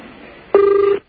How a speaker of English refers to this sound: Oh, wow. That sounds like a ring. Sounds like an underwater ring. I love that ring.